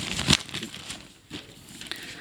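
Paper rustles and tears as an envelope brought by Viejo Pascuero (Santa Claus) is ripped open, with a sharp crackling burst at the start followed by softer crinkling and scattered rips.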